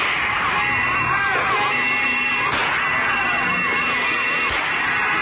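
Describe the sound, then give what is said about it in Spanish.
Two sharp gunshot bangs, a couple of seconds apart, cut through a loud, wavering siren and constant rushing road noise during a vehicle chase, shots fired by a Neiva businessman and by escorts aiming at the tires of his grey pickup truck, which damaged at least 18 vehicles. “Ahí te escuchamos los disparos que cometió esa persona, también en los escoltas que justamente le dispararon a las llantas de esta camioneta gris que provocó daños materiales en por lo menos 18 vehículos.”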